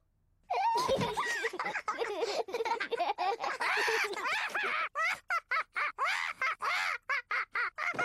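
A parrot, Polly Parrot from Peppa Pig, squawks and chatters in a rapid, high-pitched stream of bird calls, with giggly laughter mixed in, breaking into short choppy bursts near the end.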